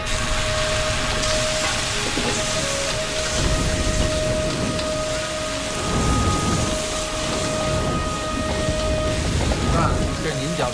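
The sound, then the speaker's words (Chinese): Hot oil crackles and spits steadily in a wok over high heat as a junior cook stir-fries the staff meal in a restaurant kitchen, a dense, rain-like sizzle with low rumbling tossing sounds and a thin steady hum running underneath. “火大了，它有点胆怯，因为那个油溅在身上，你看嘛，只要肯定要溅油噻。”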